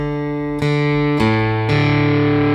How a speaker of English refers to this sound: So you have the ability to kind of, like I was saying, you could have clean, and then you could put a little bit of distortion. And we could ramp it up.